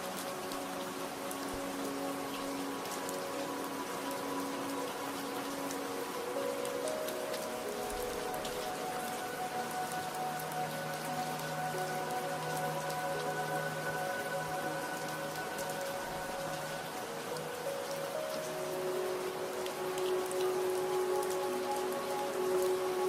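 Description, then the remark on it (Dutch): Steady rain falls on hard surfaces in a continuous, even patter that never lets up, with soft sustained tones humming faintly underneath. No one speaks. “En laat ze wegspoelen met de regen.”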